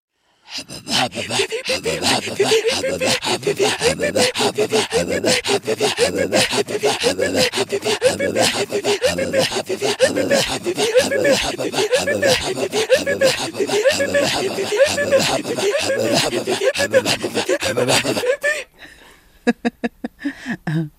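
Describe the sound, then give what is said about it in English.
Two voices trade rapid, rhythmic guttural pulses and breathy rasps in a steady, loud throat singing duet performing the song Polar Bear and Wolf, then break off into a few sparse, clipped sounds near the end. “This song really helped us learn how to breathe while throat singing.”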